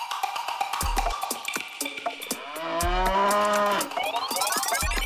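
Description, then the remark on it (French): In São Paulo, Brazil, a cow that escaped from its herd before being taken to the slaughterhouse lets out a long, drawn-out moo that swells and fades in the middle, surrounded by busy clattering and percussive sounds, with no one speaking. “À Sao Paulo, au Brésil, une vache prête à être emmenée à l'abattoir a réussi à s'échapper de son troupeau.”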